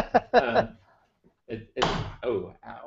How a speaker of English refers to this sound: Sorry, I just banged my elbow into something.